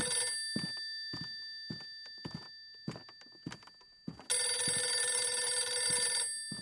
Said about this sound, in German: Da klingelt das Telefon.